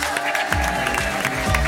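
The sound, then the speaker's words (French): Steady applause from an audience welcoming comedian Michèle Bernier, dense and continuous, with a musical tone running underneath for the whole stretch. “Merci d'applaudir chaleureusement l'excellente Michèle Bernier.”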